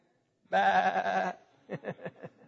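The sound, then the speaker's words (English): A voice imitates a sheep with one long, wavering bleat, followed by four short, quick bleating pulses, loud with nothing else in the background. “Because we're sheep. We're very needy animals.”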